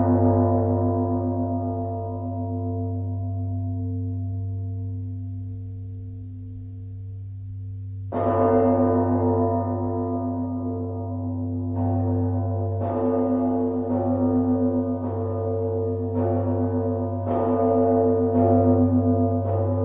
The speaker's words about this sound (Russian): Давайте мы послушаем с вами лаврский пасхальный звон.